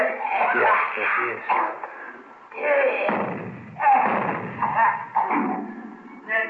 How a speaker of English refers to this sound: Hey, wait a minute. Yeah, he's coughing.